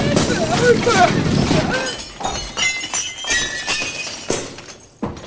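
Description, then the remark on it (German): A flying carpet crashes through a glass window into the Sultan's throne room: a dense two-second burst of smashing glass, then scattered tinkling shards and clinks trailing off, with voices briefly mixed in. “Bibi, Carla und der Herr Bürgermeister sind etwas unsanft durch ein Fenster mitten im Thronsaal des Sultans Hadschi al-Nasi”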